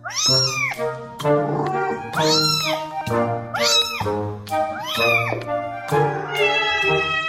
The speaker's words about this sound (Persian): چنانکه آقای دریزین می‌گوید کاربران تاکنون با استفاده از این برنامه 1 میلیارد میوی متفاوت گربه‌ها را بررسی و ترجمه کردند.